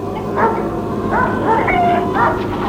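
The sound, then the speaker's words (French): A dog in a farmyard barks several times in quick succession as it comes toward people, fairly loud, with short yipping, slightly whiny barks over a steady low background hum. “Un chien vient vers eux et aboie.”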